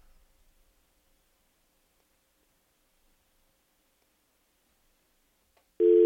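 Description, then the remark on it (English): A telephone busy signal on a failed morning call to a call-in phone line that is having problems: near silence for several seconds, then a loud, steady busy tone cuts in abruptly at the very end and is cut off after a fraction of a second. “We're having some issues this morning with the phones.”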